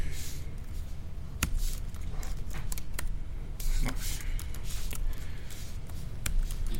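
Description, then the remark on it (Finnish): Someone types on a computer keyboard, an irregular run of quick clicks and taps over a low steady background rumble, with no one talking. “Oletko koskaan huomannut, että näppäimistön käyttäminen istualta ja seisalta vaatii täysin eri osat aivoista?”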